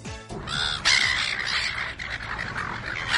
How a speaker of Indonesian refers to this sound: Burung camar yang berisik itu dikenal suka mengganggu pengunjung di pantai Australia.